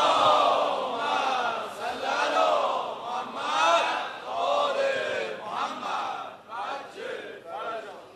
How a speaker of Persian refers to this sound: هر کی دلش میخواد به حق این روزه آقا علی اکبری که خونده شد، به حق فضائل آقامون امیرالمومنین، به حق مولد امشب آقامون امام هادی، اول دعاش انشاءالله فرج امام زمان باشه، صلوات بلند بفرست.